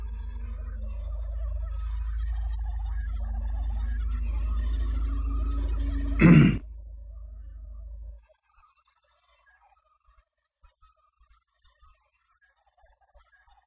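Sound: turkey gobbling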